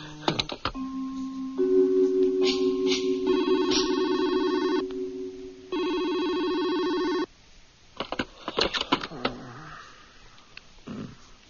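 signal or alarm, telephone ringing

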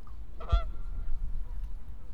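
bird, bird honking

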